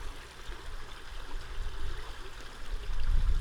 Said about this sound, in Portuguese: O som da água a correr é omnipresente aqui. Há tanques por todo o lado, com água que desce dos chocalcos mais altos deste jardim de outro mundo.